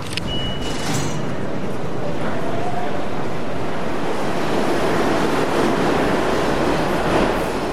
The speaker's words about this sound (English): Here's another from the train, a swiping of the Metro card as you hear the train rumbling.